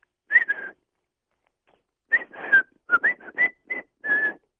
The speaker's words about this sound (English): Can you whistle it? Huh? Can you whistle that song?